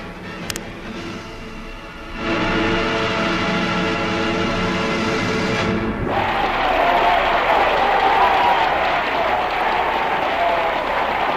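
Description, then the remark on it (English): A large audience in a steep ancient amphitheater bursts into sustained, loud applause and shouting after a brief lull, rising in a body after a Ravel piece, some waving shirts, the dense clapping and cheering building and holding steady for several seconds with no break. “When the last frenzied climax of the Ravel number had been achieved, the audience rose in a body and shouted in appreciation.”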